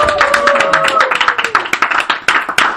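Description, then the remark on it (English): A weak round of applause: a small group clapping unevenly in quick, overlapping claps that continue throughout, with a few faint voices cheering underneath at the start. “A weak round of applause.”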